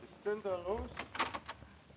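A quick series of three or four light, hollow knocks of an umbrella against a door on the second floor of a boarding house, coming just after a short vocal sound, moderately loud.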